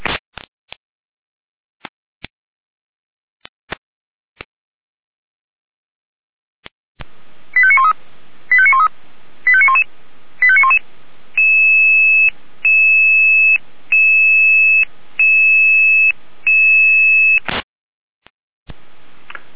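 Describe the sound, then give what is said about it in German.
A fire brigade radio alarm in Berstedt, Germany, calling out the fire brigade to light up a helicopter landing site: a few sharp clicks, then a rapid series of chirping tone bursts followed by a steady, pulsing two-tone sequence, loud and clear with no talking. “Jeder mit Alarmruf.”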